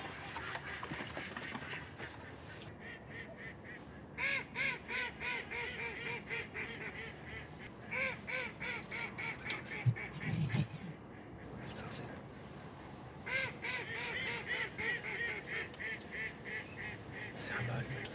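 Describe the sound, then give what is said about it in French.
Ducks call in repeated bursts of nasal, honking quacks, fairly loud, coming in rhythmic runs separated by short pauses. “C'est le plus petit des canards.”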